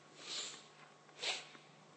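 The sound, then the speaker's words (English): A soft, muffled sneeze: two short breathy bursts about a second apart, the second a bit sharper, over a faint steady hum with no talking. “Bless you.”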